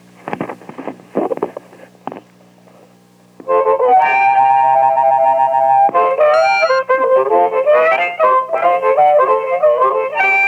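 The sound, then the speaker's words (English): A harmonica plays a tune: a few soft, breathy reed notes at first, then loud sustained chords and shifting melodic notes that run continuously to the end, with a buzzy, slightly distorted edge. “I guess you want me to play some harmonica now, right?”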